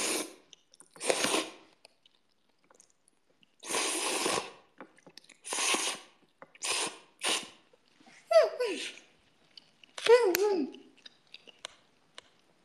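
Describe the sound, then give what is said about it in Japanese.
Close-up crunchy chewing of food, a series of loud, wet bursts coming roughly once a second with short gaps, plus a couple of brief squeaky, mouthy sounds near the end. “咀嚼音まで聞こえるのってやだ。”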